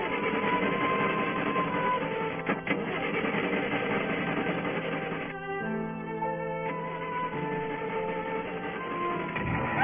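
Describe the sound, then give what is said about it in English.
An old French car's engine starts up and settles into a steady, loud, rattling churn, with a brief higher mechanical whine partway through before the rough running continues. No one speaks. “That's perfectly reliable, these French cars. There she goes.”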